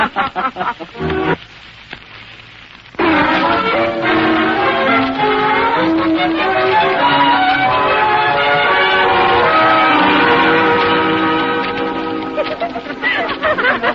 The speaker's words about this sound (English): There goes the second bell.